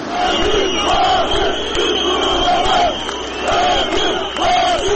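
A large crowd of hundreds of angry protesters in Turkey, supporters of Fethullah Gulen and of the Zaman newspaper, shouts and chants together while being dispersed by Turkish police with tear gas and water cannons, loud voices rising in repeated swells of roughly a second each over a constant roar of many people.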